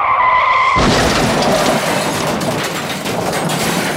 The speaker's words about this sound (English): Suddenly, there's a loud crash outside. They run to the window and see a bus has run into a telephone pole.